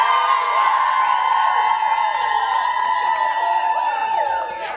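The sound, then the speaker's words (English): An audience cheers loudly and steadily for several seconds to vote in a poll, a dense wash of many voices whooping and shouting, with high bright yells riding on top before it starts to fade at the end. “Now cheer if you love my shit polls.”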